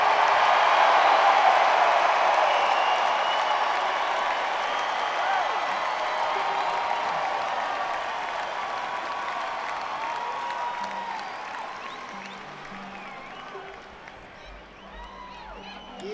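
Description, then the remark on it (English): A live music show audience applauds and cheers loudly for a fiddle player in a dense, sustained wash of clapping and shouts that slowly fades over about sixteen seconds, with a few scattered voices near the end. “Please just make as much noise as you can for”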